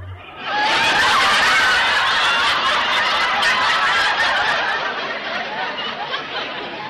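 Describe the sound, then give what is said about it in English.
Mac the frog's wolf-whistle call at a hen turkey named Bernice: a loud, sustained burst of rapid, chattering, cackling notes in a high register, running continuously for several seconds before easing slightly, with no talking. “You have just heard the frog's version of a wolf whistle.”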